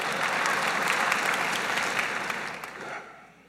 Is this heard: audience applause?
yes